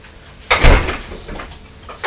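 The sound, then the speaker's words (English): A fridge door swings shut with a solid, muffled thump, followed by a brief rattle and a quieter knock, with no talking. “Let me just go and close the fridge door.”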